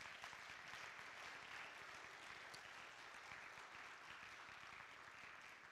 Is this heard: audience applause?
yes